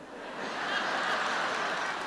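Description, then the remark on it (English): A crowd claps steadily for about two seconds, a dense, even wash of applause that swells slightly at the start and holds at a moderate level throughout. “Please don't clap for that, all right?”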